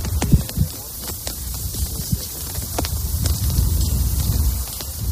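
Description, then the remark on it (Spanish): Steady wind roars with a low rumble and a hiss on a cool day among the graves of Ukrainian soldiers, while flags flap and snap in irregular sharp bursts throughout. No voices are heard. “Poner la piel de gallina, escuchar cómo se mueven las banderas, el ruido del viento.”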